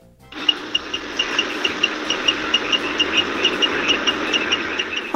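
A bus engine idles with a low rumble and a broad hiss, while its turn indicator ticks regularly over it a few times per second.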